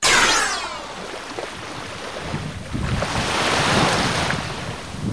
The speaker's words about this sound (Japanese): さあ、聞こえますでしょうか。寺泊中央海水浴場の波の音で、この波打ち際から本当によく見えるところにビーチスポーツコートがあるんです。